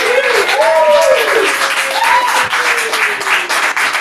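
A crowd applauds loudly and steadily for about four seconds, with rising and falling whoops and cheers gliding over the dense clapping.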